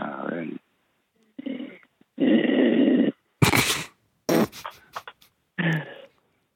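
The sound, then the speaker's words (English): Loud, raspy snoring from a woman comes in several uneven bursts over a tinny phone line, with short bursts of voices breaking in between them. “If you're dating a girl that snores like that, you probably need to rethink your life choices.”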